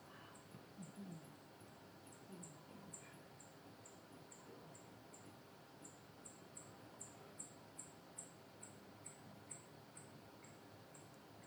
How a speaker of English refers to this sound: Okay, and then I do this, which basically slows it down or pitch shifts it down 2 octaves, and then you can hear the bats. So that kind of sound like birds.